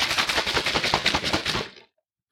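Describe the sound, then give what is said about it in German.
A shaker bottle filled with 500 ml of water and 10 g of a powdered dietary supplement is shaken hard, a fast steady rhythm of sloshing, rattling thumps for nearly two seconds before stopping abruptly. No one speaks. “Das heißt, man nimmt so einen Shaker, der wurde uns auch mitgeschickt, auch dafür vielen Dank, füllt 500 Milliliter Wasser rein, 10 Gramm des Pulvers, dann schüttelt man ordentlich durch.”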